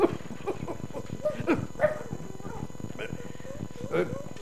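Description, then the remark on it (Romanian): A dog barks and whimpers in short, uneven yelps and whines, mixed in with people talking over a steady background murmur. “Da, să te plimbi cu câine superiorului în spatele frontului.”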